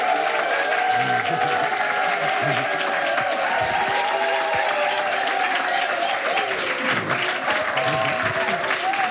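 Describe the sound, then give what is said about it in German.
A concert crowd bursts into sustained, loud, frenetic applause welcoming a band to the stage, dense clapping filling the whole stretch without letup, with some cheering and voices mixed into the roar. “Begrüßen Sie bitte mit einem frenetischen Applaus die ….”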